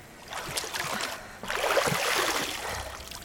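nature, water flowing

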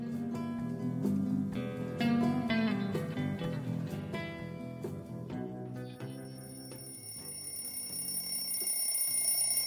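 household object, alarm clock ringing

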